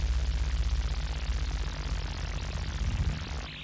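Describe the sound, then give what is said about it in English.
A helicopter sound effect: a distant helicopter drones steadily, its rotor producing a rapid rhythmic low-end thudding under a broad engine whine, with no voices present. “But the only thing I've got is a helicopter sound effect.”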